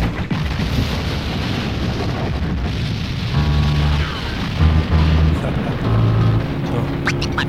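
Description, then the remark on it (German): A car explosion as a car crashes into concrete and leaking gasoline ignites, a dense, loud roaring rumble that sustains throughout, with low booming energy and voices cutting in over the second half. “Sein Wagen fährt in Betonier. Detonier. Durch Benzin, wo ausfließt und explodiert.”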